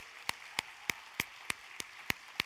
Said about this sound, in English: If you would stand, we want to just sort of give you a round of applause for all the hard work that you do, your diligence.